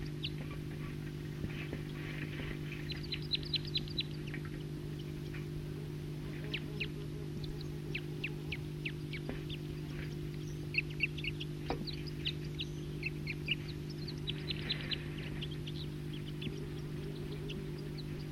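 Wild birds call intermittently with short, high chirps and quick trilling bursts, fairly soft, over a constant low mechanical hum that runs throughout.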